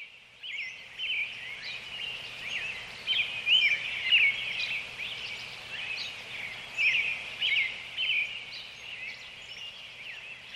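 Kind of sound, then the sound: bird, birds calling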